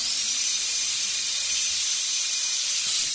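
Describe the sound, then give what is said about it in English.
A dental drill whirs steadily for about three seconds, a thin high-pitched whine riding on a bright, airy hiss, holding an even loudness throughout with no voices. “You know what that was, turn of course. It was, it's of course, horrible. A dental drill.”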